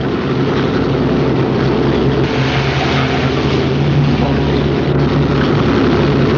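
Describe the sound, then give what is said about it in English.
A propeller airplane engine idles and drones steadily before the plane leaves, loud, with a low rumbling hum that holds constant throughout; Victor Laszlo is on the plane. No voices. “Victor Laszlo is on that plane.”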